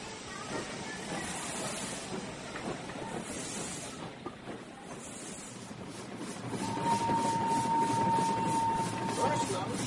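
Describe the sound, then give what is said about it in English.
A crowded passenger train runs with a steady rumbling, hissing roar that grows louder in the second half, where a thin, steady high whine sounds above the noise for a few seconds. “Oh, the train is pretty crowded.”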